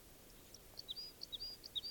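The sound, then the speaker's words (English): Type 2 crossbill song and calls from at least three birds near a camp, one singing about 150 meters from the other two: a series of quick, high-pitched chirps and whistled notes repeating in three short bursts, faint over a soft background hiss, with no talking. “Warning, there's at least three Type 2 crossbills near camp singing and calling.”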